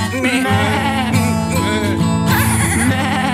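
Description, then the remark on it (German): Several voices loudly imitate sheep bleating together as part of a sung refrain of animal noises, a wavering, sustained "baa" chorus that fills the whole stretch with overlapping, quavering cries. “Deine Kuh ist wie bei einem Schaf. Jetzt.”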